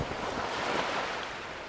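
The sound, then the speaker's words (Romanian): A steady sea breeze rushes past with a broad, hissing roar, mixed with the wash of surf, buffeting the microphone continuously with no voices. “Simți briza?”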